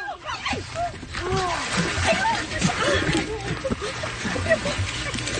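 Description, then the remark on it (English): Water splashes and sloshes continuously as a grandfather jumps in and pulls his granddaughter out of the water near a sea lion, while excited voices shout and call out over the commotion. “So there's Grandpa jumping in and pulling his granddaughter out of the water.”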